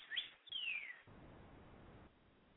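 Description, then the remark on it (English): Two quick, bright bird chirps ring out in the first second, the second a sliding tweet, followed by a low rumbling background hiss. “Well, you know, birds in the background, it's a good sign for Wicca, the tree huggers.”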